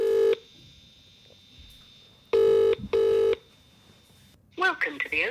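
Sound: phone call ringing out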